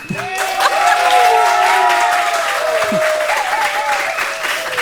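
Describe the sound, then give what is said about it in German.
An audience in a tent breaks into loud, sustained applause, a dense roar of clapping with a few whistles and cheers weaving through it for the whole stretch. “Wir sitzen heute hier vor Publikum, was ihr gleich hören werdet an dem brandenden Applaus, der hier durchs Zelt schallen wird.”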